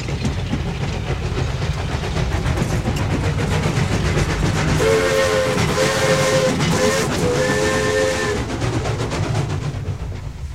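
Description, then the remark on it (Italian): A steam locomotive train rumbles and clatters steadily throughout, and midway its whistle shrieks in two or three long, loud blasts before the rolling train noise carries on alone. “Non per niente poeti come Walt Whitman e Giosuè Carducci avevano visto nella locomotiva il simbolo del progresso”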